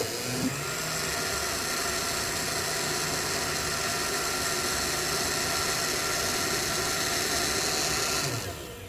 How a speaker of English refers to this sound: Top on. Now we'll blend it. That looks pretty thick. Do you want it to be thick? I like it thick.